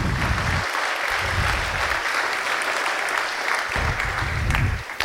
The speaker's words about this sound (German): Und ich würde um einen kurzen Applaus bitten an dieses Team.